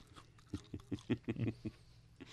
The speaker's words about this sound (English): That would look like a crouton to the uninitiated like myself. All right, let's try it. I'm going to crunch it.